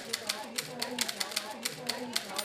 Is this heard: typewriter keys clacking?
yes